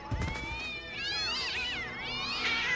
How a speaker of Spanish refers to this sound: Atrás de ellos, una manada de gatos iba tratando de morderles los talones.